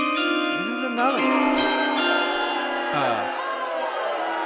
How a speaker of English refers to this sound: play the chime, Thomas, because the pick is in